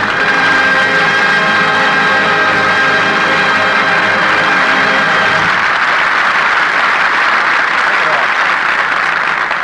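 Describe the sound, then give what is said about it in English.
A steak three inches thick sizzles in a frying pan, a loud, steady crackling hiss that runs unbroken for the whole clip, with a faint tonal hum underneath during the first half. “That's the sound of a steak sizzling.”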